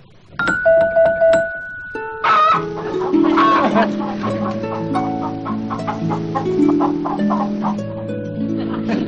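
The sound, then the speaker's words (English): A hen clucks in quick, irregular bursts over steady plucked harp-like notes, with a bright chime ringing near the start; no one speaks, and the sounds stay fairly loud. “Now the hen and the harp.”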